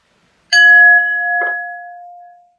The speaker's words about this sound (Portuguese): Eu vou bater aqui um sino, sempre bato um sino para criar uma energia bem positiva para você que está aqui comigo.